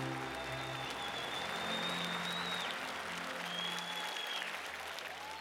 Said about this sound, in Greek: Επειδή ακριβώς η παράσταση είχε ένα ισχυρό βάρος και μια συναισθηματική φόρτιση όλο, το χειροκρότημα στο τέλος ήταν σαν αισθανόσουν ρε παιδί μου μια αποθέωση.